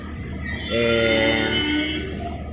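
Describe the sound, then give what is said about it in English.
A train at a quite empty station late at night, about 11 p.m.: low rumbling machinery noise, then a loud sustained horn-like chord that swells in for just over a second and fades back into the steady rumble. No voices. “I wonder if the train, like the train station is quite empty. Also, the trains are quite empty, and I wonder if it's just because it's late night.”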